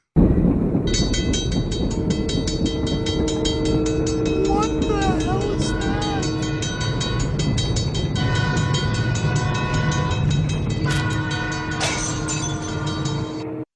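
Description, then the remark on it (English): A railroad crossing sound effect: a loud, continuous rapid clanging bell ringing over the heavy rumble of a passing train, steady for the whole stretch. “This is how I would describe the fridge, and you have train crossing sound effects.”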